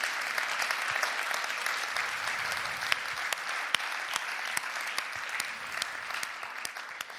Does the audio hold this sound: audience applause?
yes